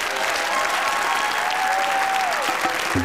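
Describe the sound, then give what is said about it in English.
A crowd claps and cheers steadily for a guest being introduced, a dense, loud roar of applause that never lets up, with a long sustained whistle or shout riding over it partway through. “Please make some noise for my brother”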